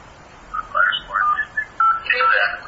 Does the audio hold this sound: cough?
no